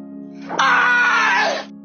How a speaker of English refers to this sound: There's just one thing that Olympic weightlifters do. Take a big-ass barbell and lift it over their heads. Enjoy the peaceful sounds of weightlifters yelling.